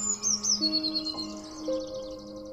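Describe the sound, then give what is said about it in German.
High, thin chirps and trills of a blue tit sitting on a person's shoulder repeat quickly near the start and fade into softer twittering over a faint steady hum. “Die Blaumeise wiederum tut, als wäre es das Normalste der Welt für sie, hier auf deiner Schulter zu sitzen.”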